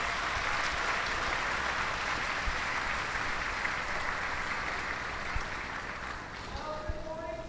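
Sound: audience applause welcoming speaker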